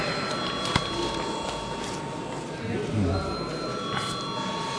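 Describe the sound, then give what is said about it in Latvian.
A parliament voting bell, called for before a vote on a draft law in its third reading, rings steadily for several seconds, a continuous buzzing electric tone with a few faint clicks over low background murmur. “Paldies, lūdzu zvanu.”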